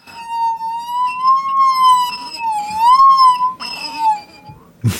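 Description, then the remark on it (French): A singing glass dipped into water holds a clear, pure ringing tone. The pitch drops as it is dipped deeper and rises as it is lifted out, slowly wavering and gliding down and back up like a musical saw, ending with a brief soft knock. “Et ensuite, quand je le remonte, la note redevient aiguë. Vous faites chanter. Donc je le fais chanter.”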